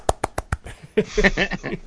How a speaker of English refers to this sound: All right. Polite clap. Yay!